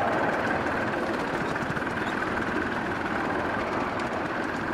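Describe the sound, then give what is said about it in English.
A steady, continuous mechanical rumble from a steam locomotive, heard from the footplate as it gathers speed after climbing a gradient and the cutoff is reduced, its exhaust settling into a soft, rapid purr with no distinct individual beats, loud throughout with no voices. “We've come up the gradient, we're gathering speed now, so now I'm going to start reducing the cutoff, linking up, and you can hear the exhaust note changes to a purr.”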